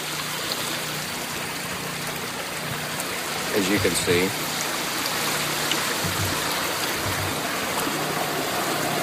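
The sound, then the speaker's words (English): Steady rushing of floodwater flowing in a front yard fills the whole recording, an even wash of water noise, with a man briefly speaking over it partway through. “Good amount of water here in the front yard.”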